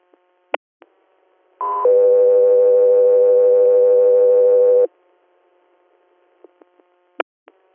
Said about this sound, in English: South 3 Air, stand by for tones.